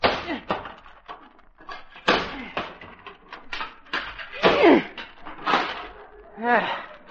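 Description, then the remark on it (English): A few heavy, dull blows of a sledgehammer knock down a wooden hammock post on a front lawn, spaced irregularly, while people talk over and between the impacts. “Jug, hand me that sledgehammer.”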